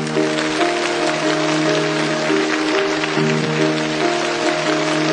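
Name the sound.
audience applause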